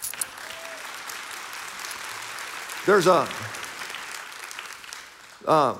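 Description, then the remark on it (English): An audience claps in a steady, even wash of applause that runs the whole time, with two short voiced calls or shouts rising above it partway through and at the end. “You should clap at that.”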